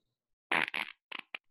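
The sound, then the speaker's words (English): A fart: a loud, buzzy, sputtering blast that breaks into a second burst, followed by two shorter, quieter puffs after a brief pause. No talking over it. “That was a fart.”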